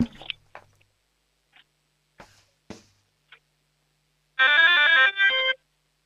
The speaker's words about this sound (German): Das ist ja eine mega coole Türglocke.